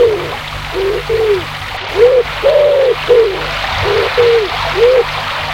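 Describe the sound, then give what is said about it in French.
A river flows steadily past its bank with a constant rushing hiss, while a dove or pigeon coos repeatedly in a soft, rhythmic series of low calls. “Ils arrivent au bord de la rivière.”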